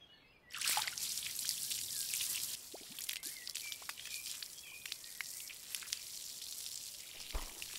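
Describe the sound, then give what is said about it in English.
Water from a hose, used to wash off boots, gushes out suddenly with a steady hiss, then eases into a softer trickle with scattered drips and splashes, no voices over it. “Ah, there it is. The water hose. There better be water.”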